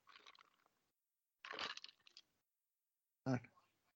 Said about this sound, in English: Right. I heard your ice cubes. What are you enjoying? Ice water. Ice water.